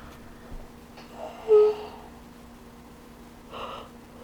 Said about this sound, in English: Excuse me, and the yawning continues.